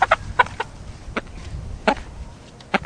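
A hen clucks in short, irregular bursts up close, with a few sharp squawking notes and some rustling in between, no talking.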